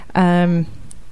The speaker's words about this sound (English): Anyway, is that your phone or my phone? I don't know. I think it's yours. It's confusing, doesn't it? I know. Too many phones.